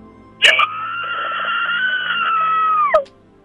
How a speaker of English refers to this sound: Wow. I bet she can give us a massive scream then.